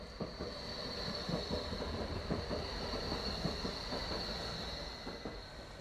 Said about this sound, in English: Hurry now, it's nearly sunset, and time to take the number 12 tram